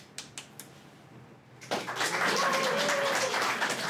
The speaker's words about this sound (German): Am besten ist einfach der spontane Applaus, der nicht gefordert wird.